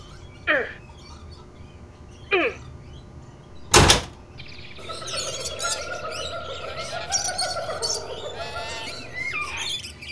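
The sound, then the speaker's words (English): A stuck door blocked by ivy is shoved and rattled twice, then hit with one sharp, loud bang. After that, a steady bed of chirping, birdlike sounds fills the background. “Why won't this door open?”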